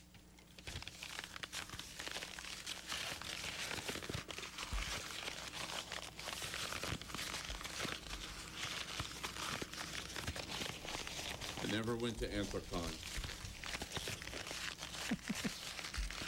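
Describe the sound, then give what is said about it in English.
Continuous crinkling and crumpling of a paper letter, loud and sustained with sharp crackles throughout; a man briefly speaks near the end over the rustling. “I think you've crumpled it enough.”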